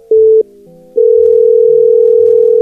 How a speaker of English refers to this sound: I like how he separates the calls with a tone, but then there's a ring. Wouldn't the ring be the tone to separate it with?